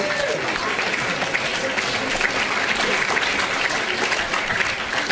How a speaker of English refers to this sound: Okay, a round of applause if you could.